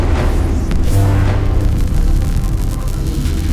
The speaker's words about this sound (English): The sky rippled. A sound like thunder warping and stuttering ripped through the air.